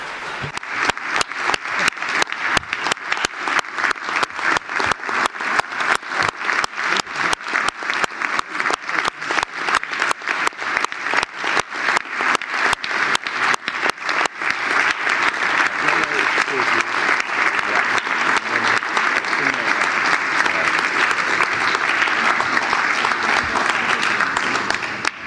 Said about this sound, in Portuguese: Então, gostaria de agradecer muito aos conselheiros que saem. Então, eu gostaria de pedir um grande aplauso a eles.